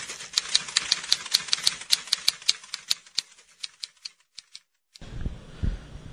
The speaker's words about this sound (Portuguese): Os ouvintes, não se preocupem com esse barulho no final, que é um barulho de uma máquina de datilografia.